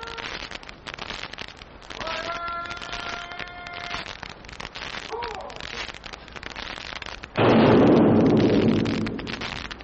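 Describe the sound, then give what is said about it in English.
A bugle plays a short call at retreat over a steady hiss, then one loud boom from Fort Fuller's single cannon firing the sunset gun erupts and rumbles away over several seconds. “It was time for retreat and a sunset gun.”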